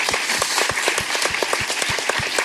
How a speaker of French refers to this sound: On peut applaudir